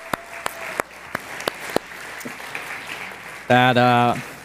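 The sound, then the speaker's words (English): An audience applauds the children who led the worship, a steady, noisy wash of clapping with a few sharp individual claps standing out, before a loud sustained cheer rises briefly near the end. “can we get one more round of applause just for our kids that were leading us in worship today?”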